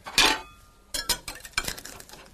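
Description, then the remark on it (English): A knife slices through a soft summer pudding and scrapes against a plate, giving one sharp opening scrape followed by a series of lighter metallic clinks and scratches, with no talking. “You cut it as a slice.”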